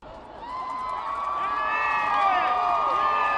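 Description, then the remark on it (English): A large outdoor crowd on 125th Street in Harlem cheers and whoops continuously as a Jumbotron shows President Obama emerging for the first time, voices rising in a loud, sustained roar with high-pitched shouts layered over the din, swelling slightly toward the end. “That was the sound from the crowd on 125th Street when the Jumbotron showed President Obama emerging for the first time.”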